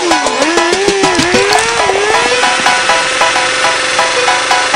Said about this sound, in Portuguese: Aí novinha, sente só o ronco do motor.